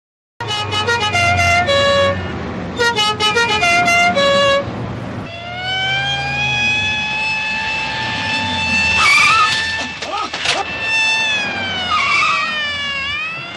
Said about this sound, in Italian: e quindi vi inseriamo nel cuore del traffico, speriamo che nessuno di voi sia nel traffico in questo momento.